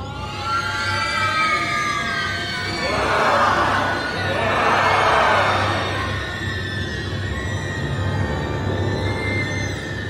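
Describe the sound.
Eerie monster-like screams rise in two loud, roaring swells over a steady low drone, with layered wailing tones holding throughout, as at a crowded outdoor night festival.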